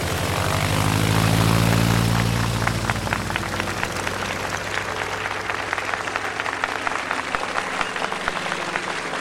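An early propeller aeroplane engine, evoking the first steam aeroplane taking off from the Pointe Penaud, roars up loudly, with a strong low drone and rapid rhythmic chopping that builds and then settles into a steady, rattling buzz. No one speaks.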